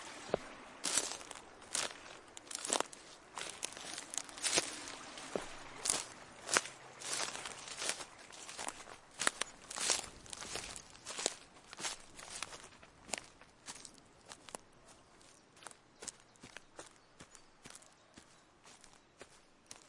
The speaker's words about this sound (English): I'm down by the river now and I'm going to be walking around in this kind of long green stuff.